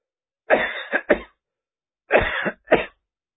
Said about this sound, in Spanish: De repente me cogió un ataque de tos.